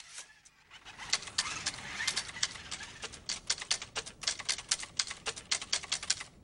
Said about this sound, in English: Rachel returns to her typing.